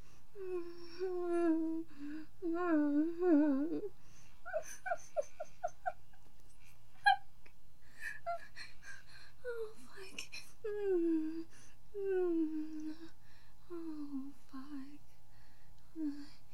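A run of high, wavering whimpers, fairly soft, repeating in uneven bursts with short breathy pauses between them, and no clear speech.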